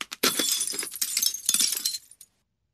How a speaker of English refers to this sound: It sounds like a glass or a window breaking.